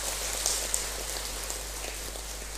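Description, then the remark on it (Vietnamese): A steady wash of dense crowd applause, many hands clapping together in an even, crackling roar that holds at the same loudness throughout, with no voices over it, given in praise of donors to the 2018 scholarships for 200 monks and nuns and 150 students. “và đặc biệt trong chương trình hôm nay các mạnh thường quân đóng góp cho việc trao tặng học bổng năm 2018 đối với 200 thầy và sư cô và 150 sinh viên, cho một tràng vỗ tay thật lớn để tán dương.”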